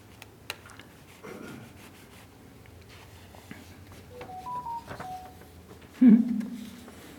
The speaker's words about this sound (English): My cell phone speaks out of turn sometimes.